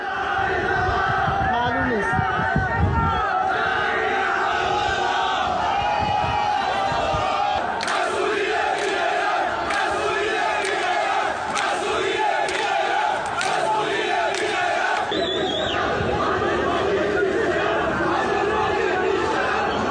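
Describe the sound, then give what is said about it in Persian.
A large crowd of citizens chants protest slogans beside the ruins of the collapsed Metropol tower in Abadan, Iran, including 'Abdolbaghi is not dead'. Voices rise and fall in loud rhythmic bursts over a constant din of shouting and chatter. “کندی و شیوه امدادرسانی و انتشار خبر کشته شدن حسین عبدالباقی زیر آوار برج متروپول شهروندان را مردد و خشمگین کرده. تا جایی که کنار خرابه های متروپول شعار مسئولین بیغیرت، عبدالباقی بیشرف، عبدالباقی نمرده سر دادند.”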